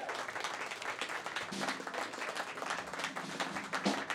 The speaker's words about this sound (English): How about a round of applause for Project Drew team?